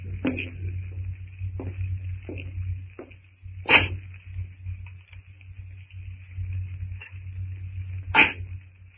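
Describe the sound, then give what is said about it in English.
Greystoke's axe chopping wood in a strangely silent jungle: two sharp, loud blows about four seconds apart, with a few fainter knocks between, over a steady low hum and a thin, high, continuous whine. No one speaks. “The sound of Greystoke's axe echoes through the strangely silent jungle.”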